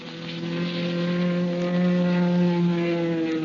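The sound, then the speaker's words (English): Propeller airplane engines drone loudly and steadily during an aerial dogfight staged for a film, a thick, harmonic roar that swells slightly midway, with no voices. “And the script called for a really hot air battle.”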